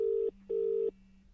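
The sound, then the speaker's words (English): A phone number being dialed as Mikel Arteta rings Jürgen Klopp: two steady, mid-pitched electronic telephone tones in quick succession, each lasting a fraction of a second with a short gap between, over a faint low hum. “He's going to have to do some ringing round, isn't he?”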